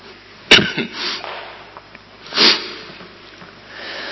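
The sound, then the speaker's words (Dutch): A sharp cough from a speaker addressing a church audience bursts out, followed by a few softer breathy sniffs and a second rougher cough-like exhale, with quiet background noise between and no talking. “Misschien kunnen we beter eerst even een versje zingen, want ik blijf maar hoesten.”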